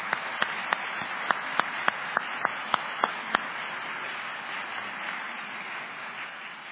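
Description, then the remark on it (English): A church crowd, before worship has started, applauds steadily for a woman asked to stand, with a dense wash of many hands clapping and a handful of sharper, louder individual claps standing out during the first half before the applause continues evenly. “And I also want to clap for you.”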